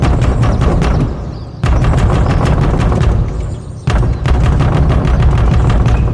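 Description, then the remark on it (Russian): Heavy fists hammer a wooden door in a rapid, loud barrage of booming thuds, pausing briefly twice before the pounding resumes. No voices are heard. “Чинно согласился он и двинул кулаком в дверь.”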